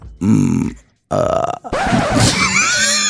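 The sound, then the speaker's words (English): A person imitates a cat's purr with three loud, throaty, rattling bursts, the last one longer and rougher, with breathy hiss and squeaky rising tones mixed in. “Here's my tribute to cats when I'm trying to purr.”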